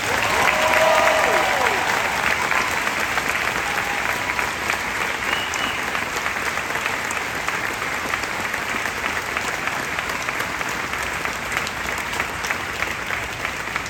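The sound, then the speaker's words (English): A crowd at Epcot applauds steadily for the whole stretch, a dense, loud wash of clapping that holds level without fading, with a few scattered cheers rising near the start, honoring cast members who helped open Epcot 40 years ago. “Please join me in a round of applause for these very special cast members.”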